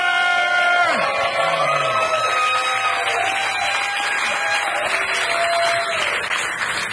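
A live audience applauds and cheers loudly and steadily for several seconds for the winner of a game on stage, with whoops and shouted voices rising above a dense wash of clapping.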